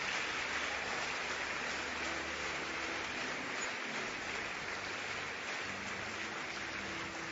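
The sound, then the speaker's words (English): Sustained applause from a large church audience for people leaving to speak with counselors, a dense, steady wash of many hands clapping at once for several seconds with no voices standing out. “Let's appreciate them as they go. Thank you. Keep clapping until they leave.”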